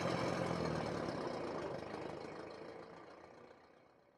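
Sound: motor car driving away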